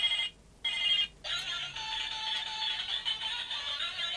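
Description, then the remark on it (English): A loud telephone rings, two short bursts followed by a sustained, warbling electronic trill that carries on steadily with no voices. “Yep, that's a loud phone, isn't it?”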